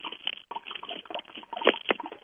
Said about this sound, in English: I do hear water.